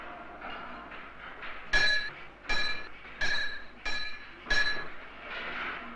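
Five sharp metallic clinks ring out at a steady, slightly uneven pace, each with a bright ringing tail, over a low hum in a tram car repair workshop in Budapest, where workers are rebuilding war-damaged trams; no one speaks.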